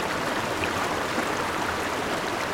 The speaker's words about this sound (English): Or whitewater rafting down a rushing river.